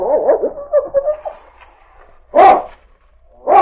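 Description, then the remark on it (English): A dog whines and yelps eagerly on finding a scent, then lets out two loud, sharp barks about a second apart, with no talking. “What's the matter with your dog? He's found a scent.”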